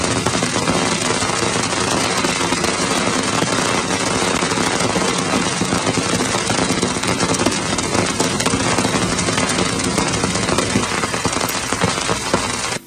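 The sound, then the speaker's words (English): A Cassini spacecraft recording of Saturn's outgoing ring plane crossing: a dense, steady roar of crackling static and rapid pops, loud throughout with no voices, cutting off abruptly at the end. “And here's the outgoing, going ring plane crossing.”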